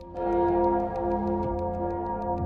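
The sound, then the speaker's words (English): A great bell clangs once and its deep, rich tone rings on steadily without fading much, echoing through a house, while a faint, regular ticking pulses above it throughout. “And as you're having this conversation, you can hear the clanging of some great bell that sounds like it's coming from off in the deep somewhere, just echoing through the house.”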